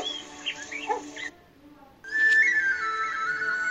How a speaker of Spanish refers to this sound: Muchos llaneros que lo han visto dicen que es un temible espanto de 6 metros que camina mientras emite su escalofriante silbido